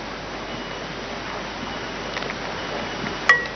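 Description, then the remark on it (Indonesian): A pot of boiling water with half a teaspoon of black seed (habbatussauda) and half a teaspoon of salt being stirred over steady, hissing kitchen noise, with soft swishing movements and a single small clink near the end; fairly quiet, with no talking. “Kemudian kita aduk.”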